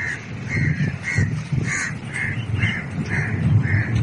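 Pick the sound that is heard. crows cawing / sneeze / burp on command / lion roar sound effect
crows cawing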